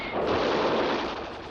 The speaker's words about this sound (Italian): Il fuoco terrificante delle artiglierie tedesche rompe le ali dell'armata nemica.